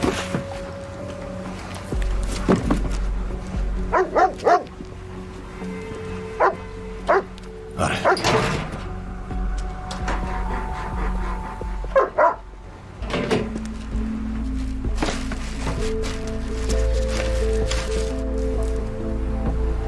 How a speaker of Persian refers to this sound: نه ببخشید، اون سگ شماست؟ نه همکارمه.